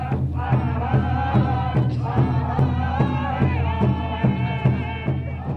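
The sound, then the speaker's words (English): A large crowd at Standing Rock roars and sings together, voices blending into a loud, sustained chant with a steady rhythmic pulse running through it, continuous throughout. “The crowd roars and sings”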